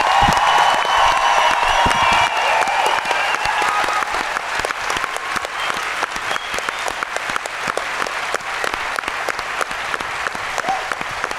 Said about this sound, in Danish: Skal vi ikke lige, inden vi slutter af, bare lige for helvede klap af dårligt om, at de har givet brug af al den tid i så mange år på at se de film.